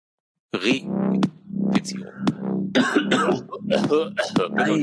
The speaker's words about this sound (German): Oh, er hustet wieder.